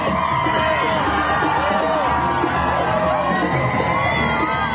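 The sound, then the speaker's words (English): A dense crowd lining the roads leading to the Ram military base cheers and shouts as a convoy of hostages released by Hamas passes, with high-pitched whoops and excited voices rising over a constant loud roar throughout. “A convoy greeted by happy crowds along the roads leading to the Ram military base for a reunion with families.”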